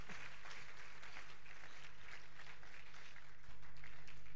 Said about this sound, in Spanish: Fuerte aplauso a Jesucristo, porque Él es fiel. Gloria a Dios.